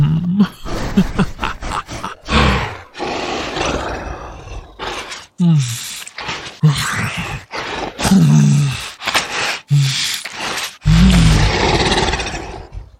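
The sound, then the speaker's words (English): A 7-foot-tall wolf-like beast roars and growls in a string of loud, guttural bursts with short breaths and pauses between them, continuing for about thirteen seconds. “The cute girl who works in accounting just turned into a 7-foot-tall wolf, and you're still hard.”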